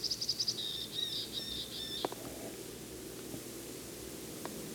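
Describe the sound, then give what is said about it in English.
A bird high up in a tree calls in a quick run of high, thin chirps followed by a short buzzy trill, lasting about two seconds before fading into a steady background hiss; temperature about 35 to 40, clear sky. “Same bird and same tree. It's high up.”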